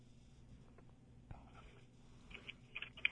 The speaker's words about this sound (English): She's typing.